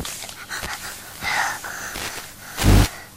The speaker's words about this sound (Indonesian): Tarik nafas.